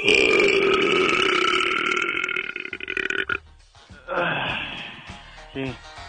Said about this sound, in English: That's a real burp. See, he would have won. Yeah. He would have won. He won it hard.